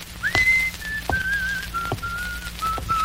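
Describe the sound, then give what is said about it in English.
A person whistles a lilting melody while walking down a street, a series of clear sustained notes gliding up and down, fairly loud over a faint low hum, with a few soft taps in between. “But I just picked myself up and walked down the street. I whistled my magic tune.”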